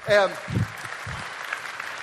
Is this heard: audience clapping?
yes